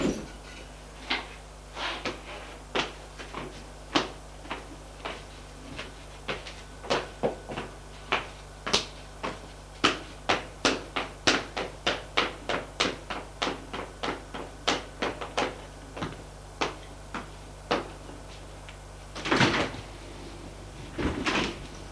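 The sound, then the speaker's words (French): A door being handled and shut, heard as a long run of sharp wooden clacks and knocks, irregular at first, then quick and steady, ending with a couple of heavier thuds. Fairly quiet. “Ferme la porte.”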